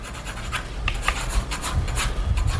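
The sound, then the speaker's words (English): A pencil scratches and rubs across paper in quick, uneven strokes as a man's face is sketched with narrow eyes, close-buzzed hair and a thin, light mustache, a dry rasping hiss with brighter scrapes every few moments and no voices. “come to life on paper, the sharp pencil strokes showing narrow eyes, hair buzzed close to the scalp, and a thin, light mustache.”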